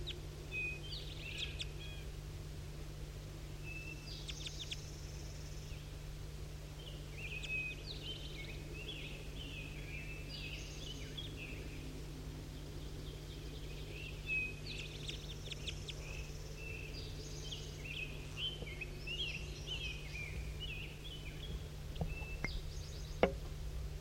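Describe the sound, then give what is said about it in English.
Short, sharp calls of two crossbills in the bottom of a hollow repeat in scattered bursts of high chips over a steady low hum and faint background noise, with no voices. “And that's 5-3 calling two crossbills down in the bottom of the hollow.”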